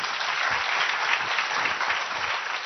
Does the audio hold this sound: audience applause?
yes